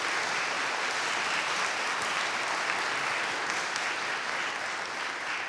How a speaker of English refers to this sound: So I'd love to just give them a round of applause.